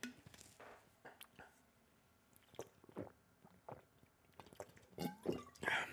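Someone drinking water: a series of soft wet gulps and swallowing clicks, faint and irregular, with a slightly louder cluster of sips near the end and no talking.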